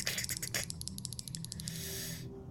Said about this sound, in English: After a moment, the clockwork child rolls into the light and it's doing its clicking and clacking.